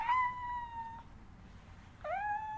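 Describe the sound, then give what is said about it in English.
Two high, plaintive meows from a kitten stuck behind closely spaced iron bars, the first drawn out for about a second, then a pause before a second rising cry; clear over faint background noise. “Sure, the poor kitten is very hungry and thirsty.”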